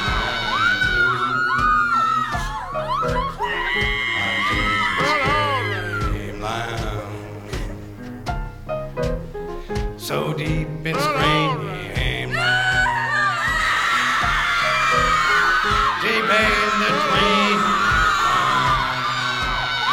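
A crowd of people screaming and yelling at full volume, many shrill voices overlapping in a continuous, chaotic din that rises and surges without a break.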